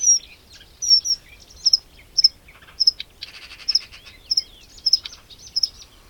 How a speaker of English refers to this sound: This is the bird song of a reed warbler. Listen carefully. Can you hear one singing within the reeds?